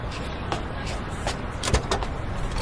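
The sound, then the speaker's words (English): A limousine's engine hums steadily while a few sharp clicks and thumps of a car door and window land in quick succession over the low rumble. “What an amazing car! A limousine?”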